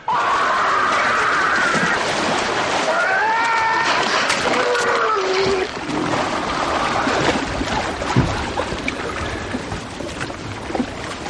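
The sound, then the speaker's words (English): A man screams in wavering, sliding cries as a shark bites down and crunches him, over loud, constant churning water and thrashing. The screaming fades after a few seconds, leaving the rough splashing and rumbling noise to continue. “And then he bites down on him and he screams, but then he does that final crunch where, you know, he's basically broken him.”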